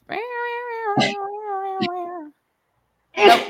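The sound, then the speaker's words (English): A single loud, explosive sneeze bursts out near the end, after a long, steady, high-pitched wailing tone broken by a couple of brief clicks and a pause. “Bless you.”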